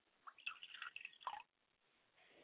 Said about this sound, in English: I pour libations to the West and I say, Ashe. I pour libations to the North and I say, Ashe. I pour libations to the South and I say, Ashe.